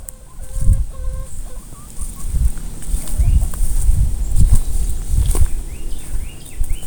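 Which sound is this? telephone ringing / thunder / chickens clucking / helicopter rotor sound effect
chickens clucking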